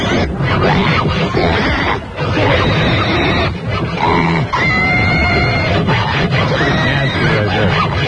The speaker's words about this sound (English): Is there any greater animal sound effect than the one we got ourselves? We're so proud of that pig sound effect. Those are real pigs. It's not like from some sound effect record. We actually were holding the pigs when they were making those sounds.